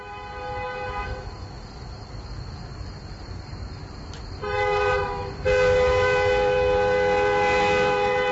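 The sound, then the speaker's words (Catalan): A train rumbles steadily through a level crossing while sustained ringing, horn-like tones sound in bursts. They return louder and hold through the final seconds, with no talking. “Però el nostre viatge en tren continua i, com dèiem, viatge històric, eh? Ara passem per un pas a nivell.”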